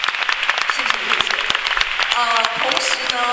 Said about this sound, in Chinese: 我们大家给所有的讲师一个最大的掌声，好不好？